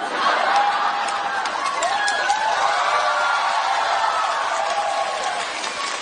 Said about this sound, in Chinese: 行了，别鼓掌了，别鼓掌了。